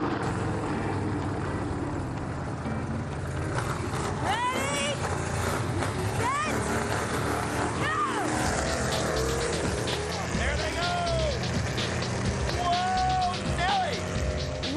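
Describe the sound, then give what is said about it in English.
Several engines roar and rev, their pitch sweeping up and down in repeated bursts over a dense, steady rumble, with voices faintly mixed in beneath the noise. “Gentlemen, you may start your engines.”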